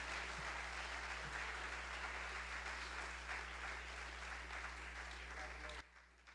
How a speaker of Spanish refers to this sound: Si usted lo cree, dale un aplauso al Señor en esta hora.